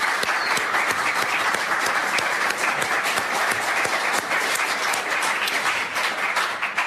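A crowd claps steadily to welcome four panel guests at an evening event, a dense, loud wash of overlapping hand claps that holds at an even level for about seven seconds without any talking.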